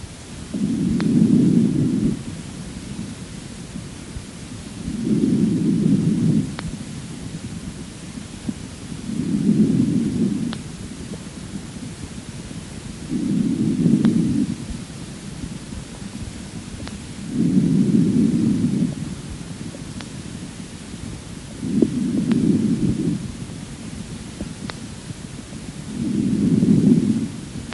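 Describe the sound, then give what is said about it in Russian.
Harsh breathing lung sounds: seven regular, low-pitched rushing breaths about four seconds apart, each swelling and fading, separated by quieter pauses with a steady faint hiss and no talking. “Сравните жесткое дыхание с характеристиками визикулярного дыхания.”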